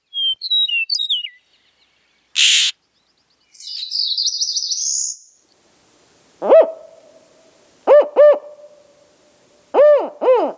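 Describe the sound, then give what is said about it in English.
Northern spotted owl hoots, a single call and then paired barking hoots in short clusters, come after brief songbird chirps, a sharp burst and a buzzy trill, with no talking. “All those birds, the Florida grasshopper sparrow, eastern meadowlark, Florida scrub jay, Sirculian warbler, and northern spotted owl are being saved by human intervention.”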